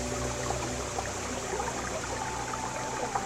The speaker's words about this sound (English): Hear the sounds. Hear the sound of the waterfall